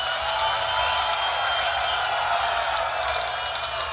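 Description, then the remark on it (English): A crowd applauds the senior citizens steadily for about four seconds, a dense, even wash of many hands clapping at a constant loud level, with faint cheers and whoops mixed in. “How about a nice round of applause for the senior citizens, ladies and gentlemen?”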